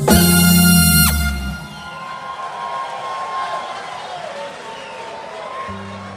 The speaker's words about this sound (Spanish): Ese aplauso no lo escuché porque estaba hablando de algo.